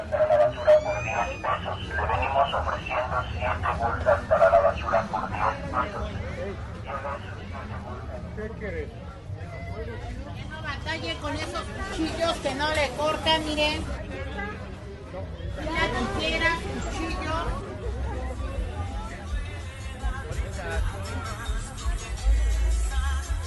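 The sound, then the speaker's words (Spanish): Open-air street market (tianguis) ambience in San Felipe de Jesús: a steady, dense hubbub of overlapping voices and crowd chatter, with occasional louder calls and bursts of activity rising out of the busy background throughout. “Eufonía del Tianguis, San Felipe de Jesús.”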